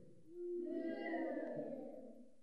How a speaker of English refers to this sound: That's the poorest boo I ever heard. I can tell you're not Jewish kids.